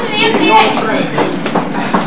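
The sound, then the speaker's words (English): Steady rumbling hum inside a J train subway car in New York City, loud, with a crowd of overlapping voices chattering throughout and no clear pauses. “All right, speaking of chicks, here's a drunk white girl on a J train in New York City.”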